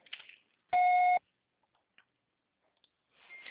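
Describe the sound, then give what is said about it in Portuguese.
A single loud, steady electronic beep lasting about half a second, a voicemail recording tone, flanked by faint hissy noise and a few tiny clicks, with no talking. “Grave o seu recado.”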